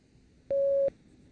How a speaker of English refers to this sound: Speak when you hear the beep.